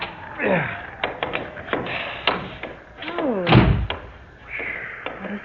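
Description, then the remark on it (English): A door is rattled and shoved in freezing cold, with a series of sharp knocks and thuds, creaking wood, and one heavy, booming thump midway before it gives way. “For heaven's sake, try the door.”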